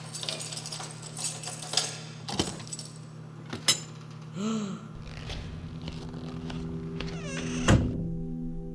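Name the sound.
keys jangling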